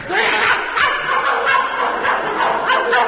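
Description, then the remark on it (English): A person mimics a dog barking, firing off a quick string of loud yaps and woofs in an uneven rhythm for a few seconds. “Whoever heard of a rooster barking?”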